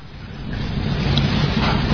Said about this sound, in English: I could tell that the person taking the footage was frightened. He ran to higher ground, and in fact, even in my seat, I felt fear. What power in those waves!